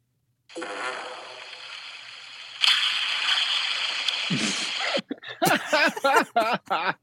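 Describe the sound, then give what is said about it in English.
A short, low, rasping fart noise in a video found online breaks through a steady hiss of background noise, followed by a voice speaking in quick bursts. “There's a fart and then a ghost saying something allegedly.”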